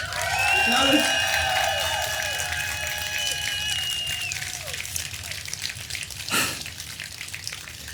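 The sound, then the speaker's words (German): Steady crowd applause from a live audience at the pre-opening of CSD Leipzig 2023 on Augustusplatz in Leipzig, with a dense, crackling texture lasting throughout, joined early on by sustained whistles or cheering tones that fade out midway; open-air and fairly even in loudness. “Und jetzt hört ihr den Applaus unseres wunderbaren Live-Publikums.”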